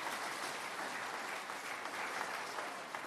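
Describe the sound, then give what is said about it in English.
Sustained applause from a crowd for coach Pete Carroll, a dense steady patter of many hands clapping at an even loudness throughout, with no voices standing out. “Give Pete Carroll a round of applause.”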